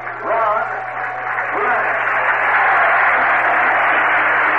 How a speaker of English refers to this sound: Great cheer for Ronnie Brand as he steps in for his fine defensive play in the top half of the sixth inning in backing up a wild throw at first base, preventing a runner from moving into scoring position.